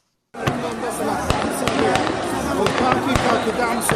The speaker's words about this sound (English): Gunfire in the heart of Sudan's capital, Khartoum. Armed men in uniform fired in the air and at protesters at an ongoing mass sit-in Monday night, killing several and wounding dozens.